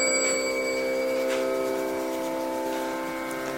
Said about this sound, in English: In the distance, a temple bell rings.